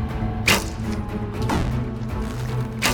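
Three sharp, sudden impacts land about a second apart, each a quick thwack of an arrow shot by archers in a contest striking near a target, over a low, steady background rumble.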